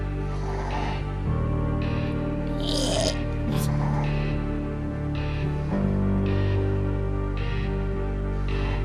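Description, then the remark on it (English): A woman snores steadily in her sleep, with regular raspy breaths repeating roughly every second, fairly loud against a low background hum. “She is now snoring.”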